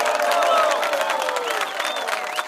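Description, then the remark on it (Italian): A crowd at a political campaign speech applauds steadily for a few seconds after a promise of a forest ranger for every tree, a dense wash of clapping mixed with cheers and a few rising whistles, staying loud throughout. “Applausi!”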